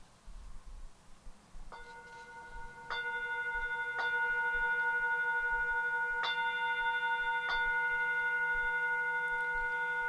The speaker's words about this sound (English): And so first the bell is rung according to the number of the day, in this case being 5.